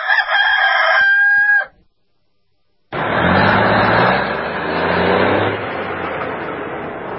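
A single loud rooster crow rings out, stops abruptly, and after a short silence a steady, broad rumbling noise like a passing vehicle takes over.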